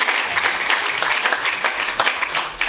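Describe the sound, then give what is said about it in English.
An audience at an Ulster Medical Society event applauds a speaker for their answers to questions: a dense, even wash of many hands clapping at once, holding a fairly constant loudness for a few seconds with no voices over it. “I think we applaud you for your answers to these questions.”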